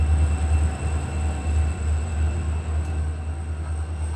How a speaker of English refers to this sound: We pause, a train carrying oil tanks passes underneath.